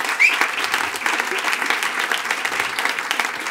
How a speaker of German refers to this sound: Deswegen Prost und warmen Applaus für Tante Fritzante.